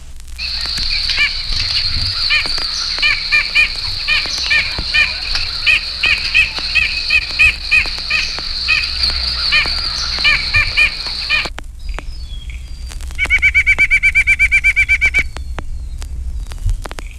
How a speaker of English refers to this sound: White-breasted nuthatch gives his nasal yank yank, followed by his more rapid spring song.